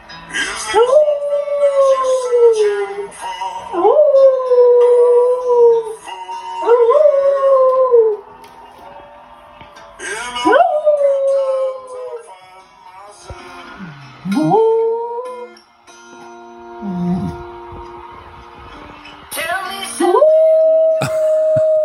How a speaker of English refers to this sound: It goes on like this for quite some time, in case you're wondering. So in this particular clip, this is like a wolf-like sort of a dog howling along